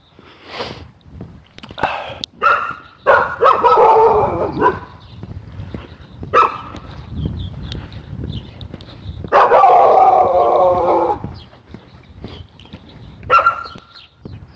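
A dog barks and yips repeatedly in loud, uneven bursts, with longer drawn-out whining barks between the short sharp ones.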